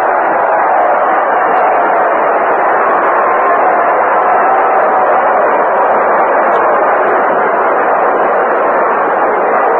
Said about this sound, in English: And here's Roger Maris, who walked and homered, number 49 on the year. Listen to the crowd.